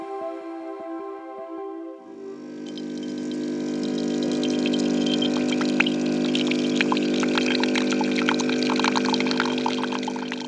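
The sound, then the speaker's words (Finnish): An office coffee machine in the corridors of Yleisradio hums with a steady motor drone, then after a couple of seconds a louder whir kicks in as coffee pours, a bubbling, hissing trickle that keeps up to the end. “Tuossa on tuttu ääni monilta toimistoilta. Myös Yleisradion käytäviltä löytyy kahvikone”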